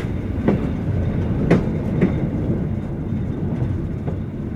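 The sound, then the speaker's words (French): A luxury train departing from the Gare de l'Est rolls steadily along the rails with a deep, continuous rumble, punctuated by a handful of sharp clacks as the wheels pass over rail joints. No voices. “prête-moi ton grand bruit, ta grande allure si douce, ton glissement nocturne à travers l'Europe illuminée, ô train de luxe”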